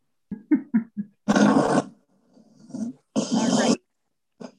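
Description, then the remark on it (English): Someone imitates snoring with their voice: a few short grunting sounds, then two long, loud, rasping snores with a quieter breathy gap between them. “Nail snoring by sound effect.”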